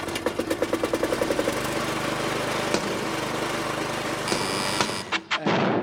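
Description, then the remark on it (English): Colin's car arrives in the afternoon, its engine chugging in fast rhythmic pulses, then a steady rough rumble, a brief high whine, and the engine cuts off near the end. “It is, in fact, Colin arriving in his car this afternoon.”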